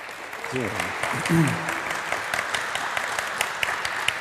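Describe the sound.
Steady applause from an audience welcoming a speaker, a dense wash of clapping that holds at a fairly even loudness throughout, with a few brief voice-like calls or whoops rising above it early on.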